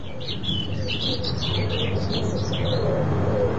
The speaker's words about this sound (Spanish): Hay pájaros. Entonces, es de día.